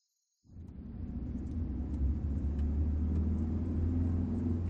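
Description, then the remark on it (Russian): A car engine drones steadily with the low rumble of tires rolling on asphalt as the car speeds very fast along an interstate highway, starting abruptly after a brief silence and continuing as constant road noise with no talking. “по звукам двигателя и трения шин об асфальт, Жан догадалась, что едут они по межгосударственному шоссе”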